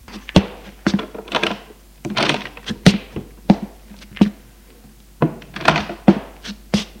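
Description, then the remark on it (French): A bedroom door being opened: a quick series of sharp clicks, rattles and wooden thunks from the latch and handle, irregular and fairly loud, with no voices. “Elle ouvre la porte.”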